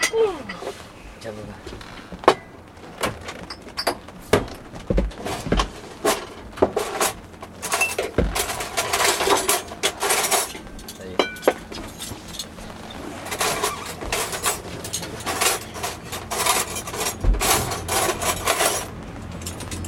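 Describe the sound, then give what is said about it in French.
Glass bottles clink and knock together in irregular bursts as they are passed from hand to hand, with scattered clatter and murmuring voices in the background throughout. “Tiens, fais passer les bouteilles.”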